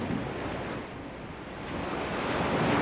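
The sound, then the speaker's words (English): Heavy rain pours down in a dense, steady hiss with no gaps, swelling slightly louder toward the end. No voices are heard. “Listen to that rain. Boy, it's really raining hard.”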